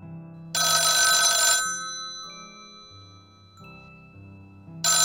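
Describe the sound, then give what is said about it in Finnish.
A telephone bell rings loudly in a burst of about a second, falls silent under a soft sustained melodic tone, then starts ringing again at the end, during a Yle X radio show. “Mun oli pakko soittaa teille, kun ette vastaa viesteihin.”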